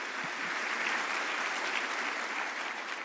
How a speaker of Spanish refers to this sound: Vamos a dar un aplauso al Señor para esto.